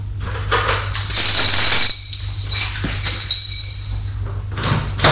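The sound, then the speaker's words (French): A locked door is opened to look into the corridor, with a scraping, rattling slide and metallic clinks, louder in the middle, then fading into quieter shuffling and a few light knocks over a steady low hum. “Il ouvre pour regarder dans le couloir qui est vide.”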